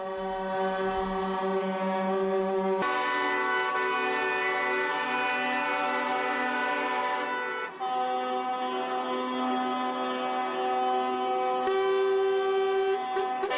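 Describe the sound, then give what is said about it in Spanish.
A dense wall of truck and car horns blares continuously from a slow-moving protest convoy of about a thousand drivers on a Monday, including a concrete mixer truck, several overlapping blasts of different pitches shifting every few seconds, loud with no pauses and no talking. “con su hormigonera y cerca de 1 millar de conductores, según los organizadores, con sus vehículos se han sumado a la marcha lenta este lunes, la más numerosa y ruidosa que la del viernes.”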